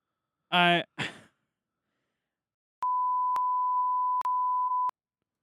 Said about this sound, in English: I'm not going to name drop necessarily. No, name drop. I'll beep it out.